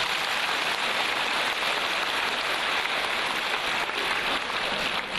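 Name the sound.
audience applause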